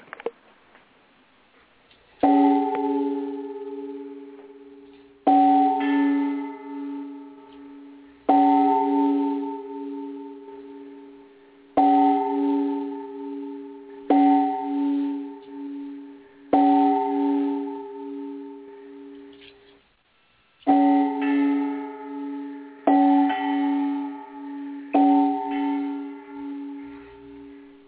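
A bell is rung nine times in three groups of three as a tribute to Nelson Mandela, who had died the week before. Each clear ringing tone decays before the next strike. It is fairly loud, with no talking.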